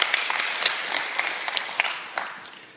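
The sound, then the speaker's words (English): A crowd applauds steadily, many hands clapping in a dense, bright wash with occasional sharper individual claps standing out, sustained at an even level throughout without voices. “So clap for that.”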